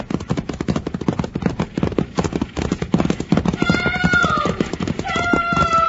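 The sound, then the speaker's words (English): Loud, rapid hoofbeats of a runaway team of stagecoach horses, pulling the Seatonville stage with no driver in the seat, pound in a fast, continuous rhythm, with high, drawn-out whinnying cries rising over the clatter near the end. “We gotta stop those horses.”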